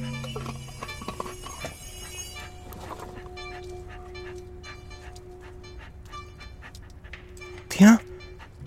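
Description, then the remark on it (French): A large, calf-sized dog without a collar pants steadily over a sustained tonal background, with one brief, louder vocal burst near the end. “Un chien.”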